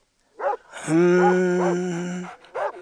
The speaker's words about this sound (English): Is that your dog?